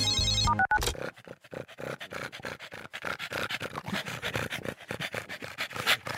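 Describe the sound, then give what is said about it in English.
A brief electronic phone ring opens, then a pug pants heavily and rapidly, quick raspy breaths pulsing continuously for several seconds with no talking. “why are you breathing so heavily?”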